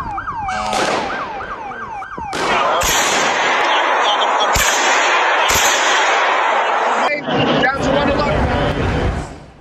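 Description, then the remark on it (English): Several sharp gunshots crack out at irregular intervals, fired into the air by a masked man holding two guns at a church front door, over loud, chaotic crowd noise and shouting, with a brief wailing, siren-like tone at the start. “A man standing by the church front door, holding two guns and wearing a hat and a mask, was shooting into the air.”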